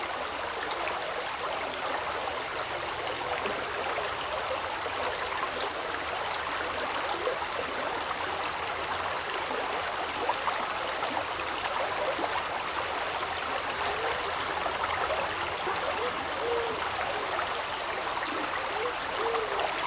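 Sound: river water flowing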